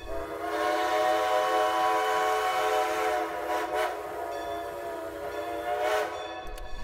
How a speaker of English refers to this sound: I hear that train a-coming.